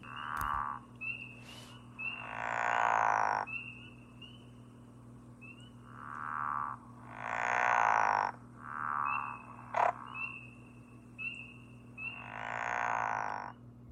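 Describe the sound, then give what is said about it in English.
A pickerel frog gives its low, snoring mating call in about six drawn-out, rasping bursts at irregular intervals, sporadic and with little carrying power, with a faint steady hum underneath and no talking. “The breeding assemblages of pickerel frogs tend to be dispersed, and the mating call, a low, snoring vocalization, is given rather sporadically and with little carrying power, in fact, less than in any of the other local frogs and toads.”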